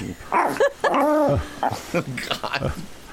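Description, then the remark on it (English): A human voice imitates a small chihuahua barking, with a quick run of high, yappy yips and whiny barks, loud, filling the few seconds on its own. “I'll do any voice you want. You want a chihuahua?”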